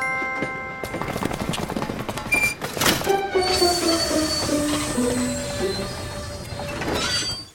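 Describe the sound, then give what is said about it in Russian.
A train's brakes squeal loudly as it slows, a shrill metallic screech with wavering pitches layered over heavy rumbling and clatter, lasting several seconds before abruptly cutting off. “Я бы нажал на тормоз и остановился бы. Рычаг тормоза!”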